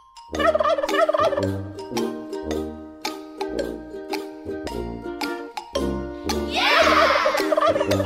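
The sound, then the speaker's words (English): A bouncy musical jingle, the intro of a Hawk and Crowder show segment, plays with steady tones and beats throughout, and near the end a loud, rattling turkey gobble bursts out over the music. “it's turkey or hawk.”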